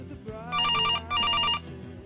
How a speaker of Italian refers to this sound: Il telefono squilla, cerco di non farci caso. Nessuno dei miei risponde.